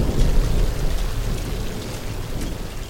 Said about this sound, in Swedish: Och regnet smattrar behagligt mot duken. Det regnar ju så in i helvete. Alltså, det regnar ju, du vet, det regnar något fruktansvärt.